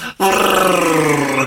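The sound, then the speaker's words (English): A voice imitates a revving car engine with a loud, sustained, buzzing growl, holding a steady low pitch with a slight rhythmic flutter after a brief moment of silence. “Insert car sound.”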